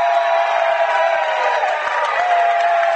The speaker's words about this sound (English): The old Bronx cheer. That's the first foul called on Jackson.